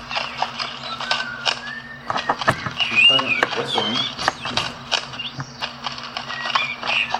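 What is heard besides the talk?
horse hooves clip-clopping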